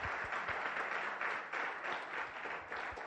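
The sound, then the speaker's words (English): Audience applause, started by a mom in the audience: a dense, steady patter of many hands clapping that holds at an even level for about three seconds, with no voices over it. “What's sad about that clap is it was started by a mom and not a dad.”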